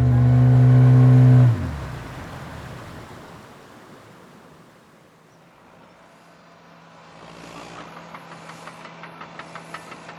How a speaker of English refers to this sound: Why'd they bring those big earth movers here? I thought they were putting the road up on the ridge. No, they're not building a road. They're actually excavating the ridge.